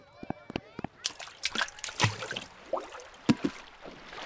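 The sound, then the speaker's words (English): Water of a lazy river sloshes and splashes in irregular bursts, like a river current slapping against floats, with a faint murmur of voices underneath. “Your sure … went on that lazy river?”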